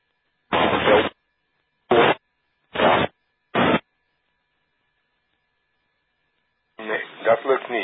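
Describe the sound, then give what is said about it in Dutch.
Four short bursts of hissing radio static crackle in a broken rhythm, an amateur radio station's transmission during an on-air round too weak and lost in the noise, followed by silence and then a voice starting to talk over the radio. “Jammer genoeg te zwak.”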